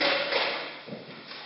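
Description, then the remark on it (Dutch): A chair scrapes across the floor as it is pulled up to the corner of a table, a broad rasping slide that gradually fades, with a soft bump near the end. “Hier op de hoek mag u bijschuiven”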